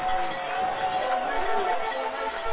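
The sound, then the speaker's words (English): A football stadium crowd roars as it rises to its feet during a goal-line play, a dense, steady wall of cheering that holds at a loud level throughout, with no single voice standing out. “You hear this crowd coming to their feet.”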